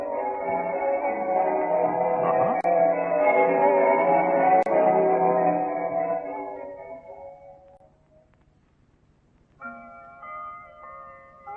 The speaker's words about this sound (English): Listen, ha-ha, to those lovely bells. Aren't they beautiful?